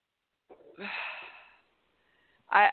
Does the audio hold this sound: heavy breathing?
yes